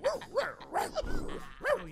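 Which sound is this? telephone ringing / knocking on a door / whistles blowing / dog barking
dog barking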